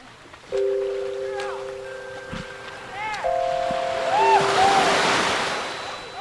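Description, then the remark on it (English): Gentle waves wash softly along the bay shoreline at San Francisco's Aquatic Park as the sun rises over glassy water, swelling slightly toward the end, while steady tones and short chirping calls ring out above the water's hiss. “The sun is just beginning to rise over the glassy water at San Francisco's aquatic park.”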